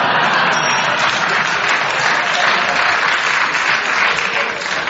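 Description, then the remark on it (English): A live audience claps steadily for several seconds, a dense, even wash of applause that stays loud and sustained throughout without any voices rising above it. “Your round of applause there was for what you said, Clement, but you paused.”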